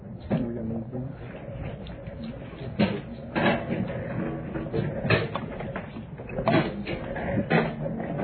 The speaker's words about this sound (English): We need a couple of chairs. Why don't we slide some of these empty chairs back there? Some of these with the tablet arms for these folks.